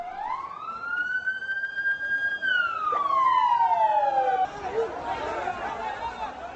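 A loud ambulance siren wails, rising in pitch, holding a high tone, then sliding downward before breaking off, with a murmur of crowd chatter and street noise underneath; ambulances on a Saturday night in Gaziantep, Turkey, near the Syrian border, carrying the wounded and dead after a suicide bomb attack on a wedding.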